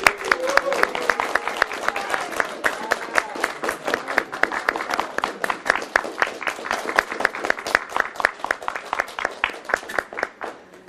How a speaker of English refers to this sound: So if we can begin with a very warm round of applause.